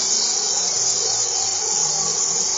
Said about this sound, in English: So as soon as I can hear the butter starting to fizz and bubble, I just want to make sure that it's completely melted.